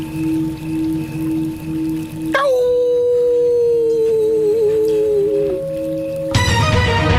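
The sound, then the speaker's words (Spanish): A person imitates the howl of a steppe wolf with one long, loud, sustained wavering note lasting several seconds, rising sharply at the start and holding steady before cutting off into a burst of noise. “La gente pide, si puedes, en tu ese talento para imitar, si puedes hacer un aullido de lobo, pero de lobo estepario.”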